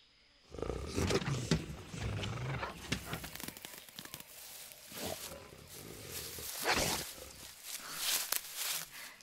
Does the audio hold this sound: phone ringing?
no